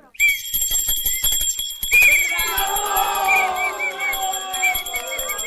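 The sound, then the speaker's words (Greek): Steady clopping hooves come first, then a loud donkey bray rises over them and carries on with a harsh, wavering tone while the hoofbeats keep going underneath. “Κουκουτούς, Κουκουτούς, πρόσεχε το γάιδαρο.”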